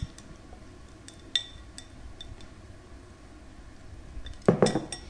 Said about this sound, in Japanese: 黄色と緑がとても綺麗な仕上がりです。よいしょ、お皿に盛り付けます。